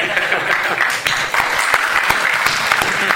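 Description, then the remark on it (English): A crowd claps steadily, a dense patter of many hands that keeps an even level for a few seconds, with no voices standing out above it. “No one's going to clap for that.”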